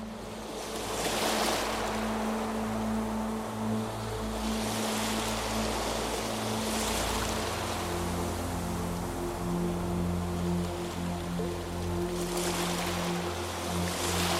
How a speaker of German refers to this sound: Das Rauschen der Wellen klingt wie eine beruhigende Melodie in deinen Ohren.